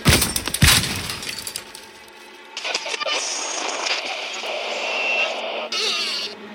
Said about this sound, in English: He pulled out a hammer from his toolbox and smashed it against the radio, leaving plastic shards all over his workbench.